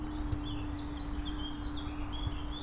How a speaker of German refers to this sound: Die Vögel zwitschern.